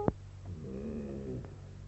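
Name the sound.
cat meowing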